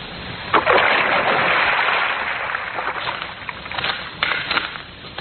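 A woman's body is dumped into a river: a heavy splash hits the water, followed by a rushing, churning wash that fades, then a few smaller sloshing surges and ripples. No voices are heard.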